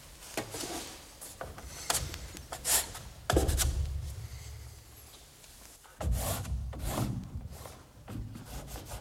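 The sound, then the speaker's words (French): Scratching of a pen moving across paper in short and longer strokes as a free drawing is made on a page without any pencil sketch first, with soft rubbing and a few heavier scrapes, steady and quiet with no voices. “Là, c'est un dessin libre, c'est-à-dire c'est sur une page, et puis je fais pas de crayonné.”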